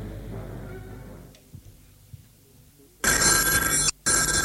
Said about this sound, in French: Téléphone a sonné et a décroché.